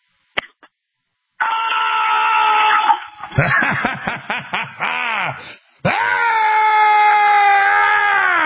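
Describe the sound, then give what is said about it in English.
A loud, powerful female battle cry heard over a phone: a long sustained yell, then a stretch of ragged, warbling shouts, ending in another long, strained held cry that sounds harsh and overdriven, so loud it overdrove the phone. “So let's hear a powerful female battle cry.”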